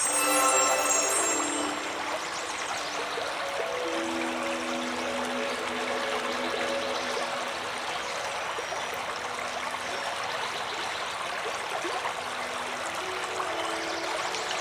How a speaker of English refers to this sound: Okay, I think we're ready to find a quiet spot to use the sounds of the waterfall and the river to meditate, be present in our bodies, and relax.